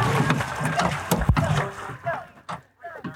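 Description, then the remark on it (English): Water sloshes and splashes outdoors during a 4th of July log rolling contest in Petersburg, Alaska, with one sharp splash midway and a murmur of voices from a crowd. “Alaskans celebrate the 4th of July in a myriad of ways, whether it's log rolling in Petersburg.”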